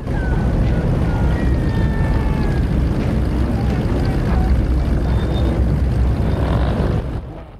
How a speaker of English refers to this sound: The cars and bikes roll up outside the front gate of the compound.